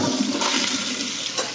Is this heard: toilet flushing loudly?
yes